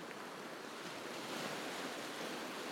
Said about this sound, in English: I'll leave you with a few sounds of the sea.